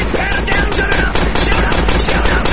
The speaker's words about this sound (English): What is that? Gunshot! Shot fire!